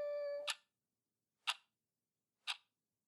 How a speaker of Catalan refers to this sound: El rellotge fa... Tic-tac.